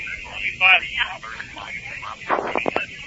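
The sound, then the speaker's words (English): Muffled, tinny voices carry over a thin, radio-like line. Near the end, rowers slap the sides of their boats in a quick cluster of sharp knocks, several hits in rapid succession. “Hitting the sides of the boat, they're getting psyched up.”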